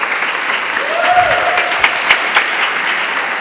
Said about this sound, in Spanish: Denle un aplauso al Señor esta noche.